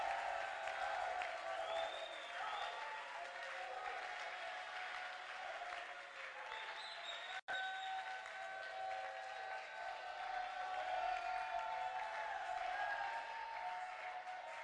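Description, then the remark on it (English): A crowd answering a preacher's call to clap and shout claps steadily and loudly for about fifteen seconds, with voices shouting and cheering over the applause, broken by one brief dropout midway. “If you agree with me, let your clap be loudest. Let your shout even be much louder.”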